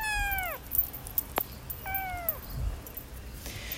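kitten meowing

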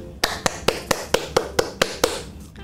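children clapping hands

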